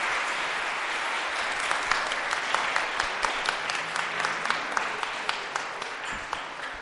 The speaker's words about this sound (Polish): Gorące oklaski dla gospodarzy tego miejsca.